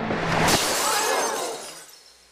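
A pane of glass on a stage shatters with a sharp crash as a gun is fired through it at a magician, followed by a bright cascade of tinkling shards that rings out and fades over about two seconds. No voices are present.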